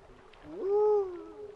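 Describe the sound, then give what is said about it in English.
A spotted owl gives a single drawn-out call that swoops upward into a clear, steady whistled tone, then fades. It stands alone against a quiet background, with no talking. “I'm not sure a spotted owl would think that at all. But that's what I think when I hear Grant's call.”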